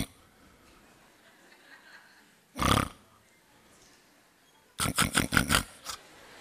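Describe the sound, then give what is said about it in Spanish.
A person loudly imitates snoring: one long, rasping snore, a pause, then a rapid burst of several shorter snorting snores, prominent with no speech. “Y empezó a roncar.”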